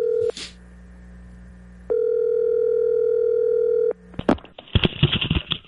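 A phone call being placed to Tiger: two long steady ringback tones with a pause between, followed by a burst of clicks and crackly line noise as the call connects, no voices.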